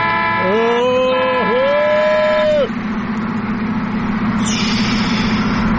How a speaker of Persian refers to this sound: اون نگاه کنه نیسان تزوری داره رانندگی میکنه، بذار یه بوق واسش بزنم ششش حال بیاد.